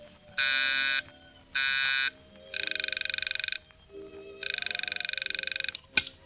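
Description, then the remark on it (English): A telephone rings on a call to the Portsmouth Navy Base, in four bursts: two short, steady buzzing tones, then two longer trilling rings with a rapid rattle, over a low hum, ending in a sharp click. “Line's busy. Keep ringing.”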